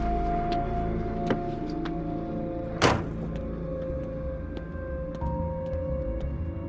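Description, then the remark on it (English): A single solid car door of an SUV thuds shut midway through, set against a steady low hum, with a few faint scattered taps like light footsteps crossing a driveway before and after. “Jennifer and David watch as Christina gets out of the car and crosses the driveway.”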